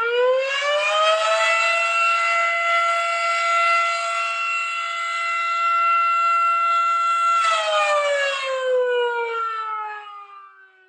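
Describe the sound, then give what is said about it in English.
The Milton Volunteer Fire Department siren at the firehouse wails steadily and loudly, its tone rising at the start, holding a long sustained pitch, then winding down and fading out at the end. No voices. “Sirens like the one you just heard have seen a lot of service over the past 70 or so years.”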